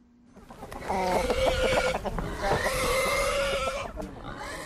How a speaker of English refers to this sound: Chickens scrabble in the dirt and pigs feud over food on Brightside Farm in the Machalies Mountains, north of Johannesburg.